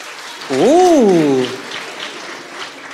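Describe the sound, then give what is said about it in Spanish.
An audience of people who are not Latino claps on request in a steady, diffuse patter, with one loud rising-and-falling whoop from a voice cutting through near the start before the clapping continues on its own. “Ok, aplaudan los que no son latinos.”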